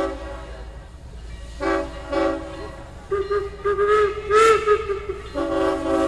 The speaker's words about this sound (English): It's basically an 1865 locomotive that was built brand new. Today's rail workers seem impressed. Listen to this interplay between the Leviathan and a passing freight train.